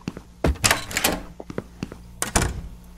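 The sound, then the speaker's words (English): A door opens in an audio game with a quick series of clunks and a rattling handle, a short pause, then a final heavy thud as it settles, fairly loud with no voices. “Did I open... Oh, I did open that one.”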